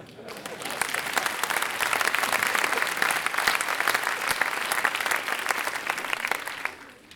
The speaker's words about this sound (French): On peut applaudir.